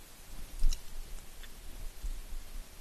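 Soft, wet chewing of a favorite chewy candy called Like a Snake, with faint sticky clicks and mouth sounds at an irregular pace. No one speaks.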